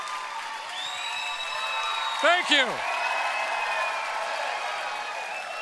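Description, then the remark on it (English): An audience at a Ron Burgundy stand-up comedy show cheers and applauds in a steady, loud wash of clapping with whoops rising above it, while a man briefly speaks over the noise partway through. “That's what you say when they're screaming too long, right?”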